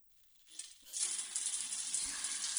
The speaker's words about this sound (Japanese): はーい、お客さん、お湯加減はこれくらいでいいですか？なんちゃって。こうやって人からシャワー浴びせてもらうのなんかいいっしょ。